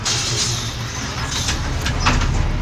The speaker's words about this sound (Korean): 버스도 다니고 있었습니다.